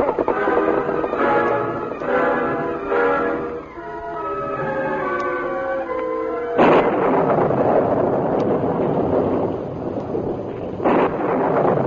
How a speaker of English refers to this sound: Storm's blowing up. It might be a bad one this time of year.